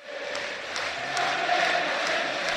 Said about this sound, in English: The atmosphere is absolutely rocking here in Govan. Giovanni Van Bronckhorst said his players need a noisy crowd tonight, and he certainly got that.